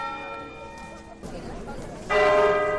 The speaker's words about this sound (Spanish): Las campanas de las iglesias de todo el mundo anunciaron la noticia del fallecimiento de Francisco